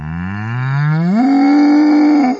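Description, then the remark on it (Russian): A bull lets out one long, loud moo, its low bellow sliding upward in pitch partway through and holding steady before cutting off. No voices. “Набежал бык, рогами волка в бок.”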